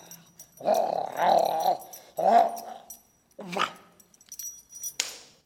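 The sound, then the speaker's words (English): A dog named Senator Something growls and grumbles in several muffled, gurgling bursts while holding something in its mouth in the Capitol, with brief pauses between the snarls. “Hey, what's that in your mouth? Destroying U.S. property.”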